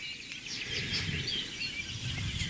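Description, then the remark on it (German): Faint, fluting song of a Eurasian blackbird in the background, a run of short melodic phrases and chirps over a soft, steady outdoor hush, with no voices present. “Entweder ist der Gesang melodisch, die super Amsel, die wir im Hintergrund auch hören.”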